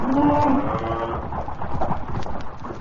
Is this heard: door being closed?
no